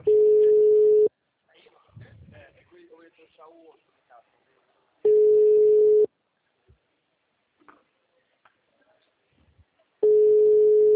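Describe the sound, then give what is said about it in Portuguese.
A steady, mid-pitched telephone line tone sounds in loud one-second bursts about every five seconds, three times in all. Between them, a person speaks quietly. “Era meu sonho ter esse telefone.”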